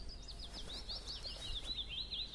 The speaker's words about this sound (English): That's all willow warbler. That's willow warbler.